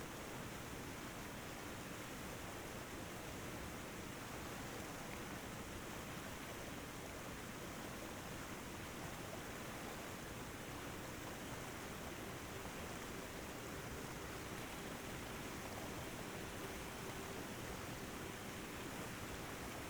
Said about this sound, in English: swim over to stand underneath the waterfall.